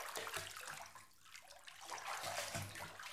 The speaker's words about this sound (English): Now let me lower you into the water.